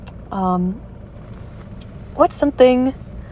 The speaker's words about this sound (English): There's this weird rumbling sound in my car, sorry.